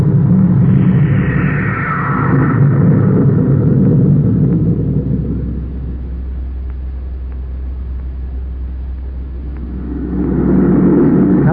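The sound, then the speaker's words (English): Spaceship jet engines roar for takeoff: a steady, heavy low rumble with a hissing edge, swelling at first, settling into a lower drone, then surging loudly again near the end. “Close port. Fire jet. Fire jet. Up, ship it away.”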